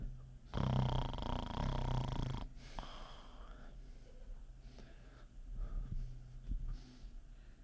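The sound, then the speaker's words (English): A voice imitates a man snoring with one long, loud, rasping snore lasting about two seconds, followed by quieter breathy sounds and faint clicks. “She heard him snoring, right?”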